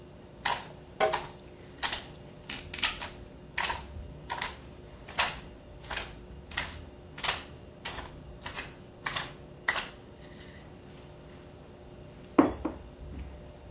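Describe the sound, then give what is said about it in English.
A pepper mill grinds about 1 teaspoon of fresh black pepper, twisted in steady turns, giving a run of crisp, dry crunching clicks about every half second, then a pause and one last sharp click. No one speaks. “I would like to put 1 teaspoon of freshly ground pepper.”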